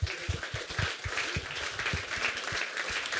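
A crowd applauds steadily, many hands clapping in a dense, continuous patter that holds at a fairly even loudness throughout, with no voices standing out.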